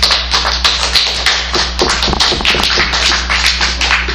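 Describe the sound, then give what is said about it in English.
A crowd applauds steadily, many hands clapping in a dense, fast patter that stays at a fairly even loudness throughout, with a low steady hum underneath and no voices. “Robert's Rules of Order also does not allow for clapping, but again, my soft gavel.”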